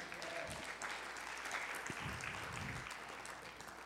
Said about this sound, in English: If you believe that tonight, will you give the Lord a hand clap of praise?